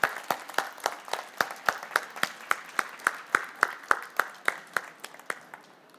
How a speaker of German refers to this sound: Applaus!